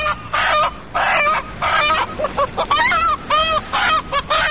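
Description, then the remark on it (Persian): A chicken clucks in a quick, uneven string of squawky calls, some drawn out and some short and choppy, loud with no talking over it. “مرغ جان، سال که گذشت مردم میگه سال مرغ بود و سال جدیدم میگن سال سگای گرامی است. خودت چی گفتنی داری ده ای باره؟”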